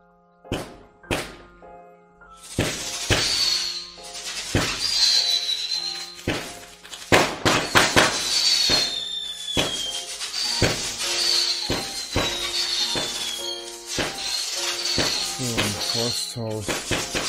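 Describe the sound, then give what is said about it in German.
A rapid, irregular string of sharp bangs and cracks as firecrackers are set off outdoors by harassers outside a streamer's home during a live gaming stream, with loud pops scattered over a steady crackling din and some tonal background sound. “August konnte man hören, wie Hater draußen hupten und dann Böller anzündeten.”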